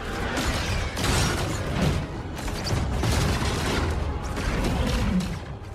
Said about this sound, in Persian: اونا سفینه‌های خودمونن، دارن به هم دیگه شلیک میکنن.